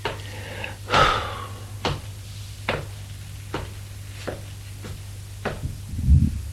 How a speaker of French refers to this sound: Il monte, essoufflé.